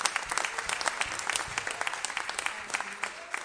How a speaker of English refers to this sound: As we start off, can we just give the Lord a hand clap of appreciation? Hallelujah, hallelujah.